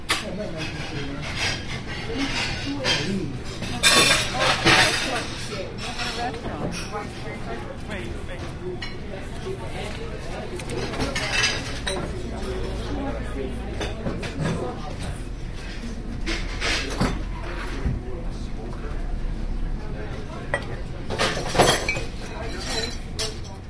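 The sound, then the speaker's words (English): A busy diner kitchen on Manhattan Avenue in Greenpoint: dishes and cutlery clink and clatter almost constantly, with sharp bright rattles and scrapes over a low background hum and indistinct voices. “A kitchen in a restaurant.”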